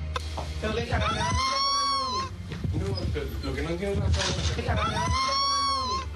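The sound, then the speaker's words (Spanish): A loud, wavering scream, recorded by a camera at night, rises and falls in two long strained cries with a shorter outburst between them, all over a steady low hum. “¿Esto es un grito?”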